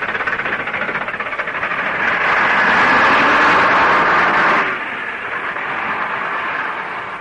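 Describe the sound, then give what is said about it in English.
A number 11 bus pulls in with a broad, rumbling engine roar and hiss that swells loudly, then drops off abruptly to a steadier, quieter idle. No one speaks. “Hey, there's number 11 bus coming.”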